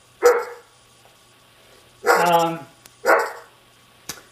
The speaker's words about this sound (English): That's my dogs in the background. I hope they'll stop soon.